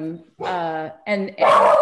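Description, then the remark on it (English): A dog growls and barks in four quick, loud bursts, the first ones tonal and whiny, the last rougher and harsher, with brief pauses between them. “We're having a nervous day, me and the dog.”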